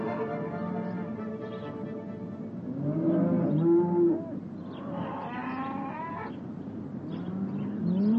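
Several cows on a farm moo in overlapping, drawn-out lowing calls as they are taken out, some deep and some rising in pitch, steady throughout with no one speaking.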